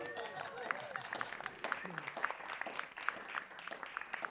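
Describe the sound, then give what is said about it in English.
An audience breaks into steady applause for the curators of the Spatialized Indigenous Mixtape, the final event. A dense wash of many hands clapping runs throughout the four seconds, with a few voices and whoops mixed into the crowd noise. “Oh, please, round of applause.”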